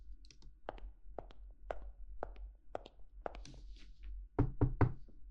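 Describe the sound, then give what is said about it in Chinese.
Someone knocks on a door in a steady series of sharp raps, then finishes with a louder, heavier burst of pounding knocks. No one speaks. “开门，开门。我数到三，不开门我就踹了。”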